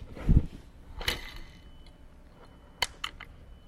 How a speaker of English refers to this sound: It's nice. I like how that sounds. So when you kick it, it goes down, spins the engine, and then it ratchets back to its position, which is the clicking that you can hear.